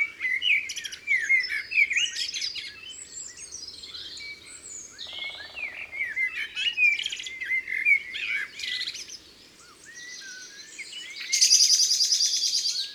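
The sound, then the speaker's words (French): A bird gives a harsh, rapid, high-pitched alarm call near the end, following a long stretch of busy chirping and warbling song. No voices are heard. “Ça, c'est son cri d'alarme. Il a eu peur de quelque chose.”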